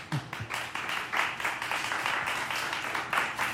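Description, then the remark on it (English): A crowd applauds and cheers steadily, dense clapping filling the whole stretch with a few brief voice shouts mixed in at the start, loud and sustained without letting up, as the head coach of the Frederica Knights is introduced. “Rowdy crowd.”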